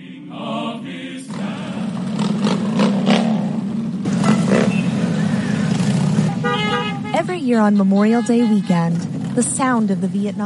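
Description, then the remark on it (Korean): A dense, continuous roar of a procession of thousands of motorcycles rolling past, held in the United States on Memorial Day to honor veterans, with a few horn toots and wavering tones near the end and a voice talking over the rumble. “또 퇴역 군인들에 대한 감사를 잊지 말자는 취지로 오토바이 수천 대의 행렬이 펼쳐집니다.”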